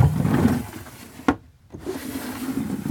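A door being opened and closed: one sharp wooden clack, a brief hush, then a softer knock, with a steady low rumble of background noise before and after. No one speaks.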